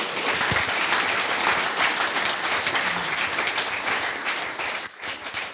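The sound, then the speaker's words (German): Sustained applause from an audience, many hands clapping in a dense, steady wash that stays loud throughout, with a brief dip near the end. “danke für das Internet. Applaus!”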